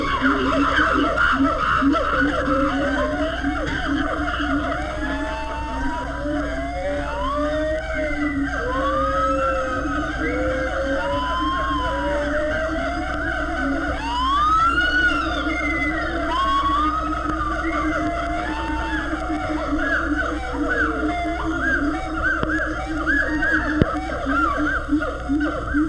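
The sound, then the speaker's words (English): An early morning primate chorus at the San Diego Zoo: chimpanzees' overlapping screams start it, joined by gibbons' and siamangs' whooping, siren-like hoots that swoop up and down in pitch, sustained and loud over a steady background hum, with no talking. “The screams of the chimpanzees start the wild chorus off.”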